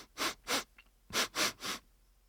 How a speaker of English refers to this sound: So, sniffing is a sound that you make when you are breathing through your nose.